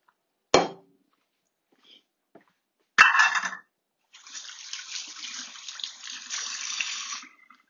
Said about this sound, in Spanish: Y bueno, pues vamos a quitar el motor de la batidora de aquí para hacer el menos tiradero posible.